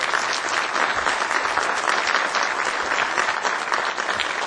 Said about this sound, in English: So, church, y'all please give them a round of applause.